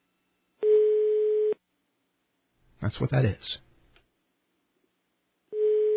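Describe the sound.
A German telephone ringing tone on an overseas call to Hamburg, Germany, a steady single-pitched tone lasting about a second, returns after a long pause, with a brief spoken remark in the silence between the two rings.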